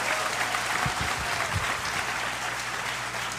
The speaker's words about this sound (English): I would just like to say what an honor it's been for me to talk to one of the preeminent great rock lyricists of modern times. Thank Will you. You please give a round of applause Thank you.